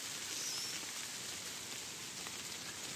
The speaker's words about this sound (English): The rain's getting heavier, can you hear?